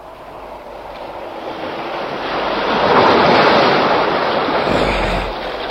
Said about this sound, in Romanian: În ziua de 4 ianuarie, Nautilus naviga încercând să pătrundă în Oceanul Indian prin periculoasa strâmtoare de Torres. Profesorul Aronnax privea de pe puntea submarinului, împreună cu Ned Land și Conseil, valurile care se izbeau cu furie de stânci.